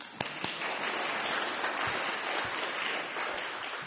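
An audience applauds steadily, a dense wash of many hands clapping at an even level, with a few sharper individual claps standing out.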